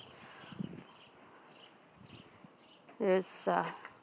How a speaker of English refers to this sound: I'm not sure what bird that is